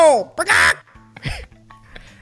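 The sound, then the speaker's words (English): A person imitates a parrot's squawk with a voice: a high, strained cry and a harsh raspy burst, then a shorter nasal squawk after a pause, fairly loud. “That sounds like a rooster.”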